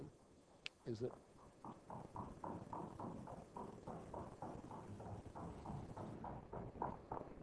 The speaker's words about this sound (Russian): Что, лошади там, что ли?